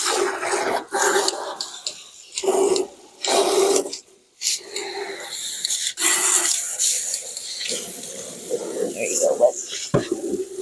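Water gushes from a hose into Ovation's water tub in a steady, rushing hiss, with some brief pauses and splashy bursts, fairly loud.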